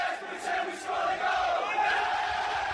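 A large crowd of football fans roars and shouts "goal" together, pretending their team has scored, a loud, sustained wall of voices with chant-like tones running through it for the whole stretch.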